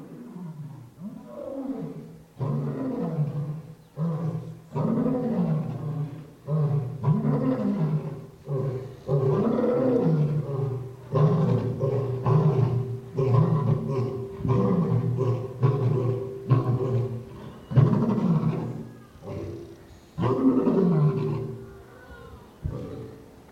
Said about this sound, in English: Now that is what Peter is talking about. A roaring lion on the prowl, seeking whom he can devour.